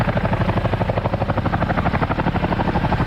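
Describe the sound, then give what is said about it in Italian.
A Boeing CH-47 twin-rotor helicopter roars loudly overhead in the morning, circling above a football field, its blades beating in a rapid, steady thudding chop over a dense engine drone that holds throughout, with no voices. “Vediamo in alto un elicottero di quelli con due eliche.”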